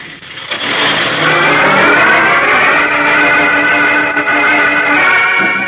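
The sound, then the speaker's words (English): A truck carrying hooded men roars loudly and steadily out of a dark driveway, revving as it pulls away, with a rising mechanical growl that stays strong for several seconds before easing slightly at the end. “Eyes wide and heart-pounding, young Chuck Riggs watches the truck carrying his uncle and the other hooded terrorists roar out of the dark driveway.”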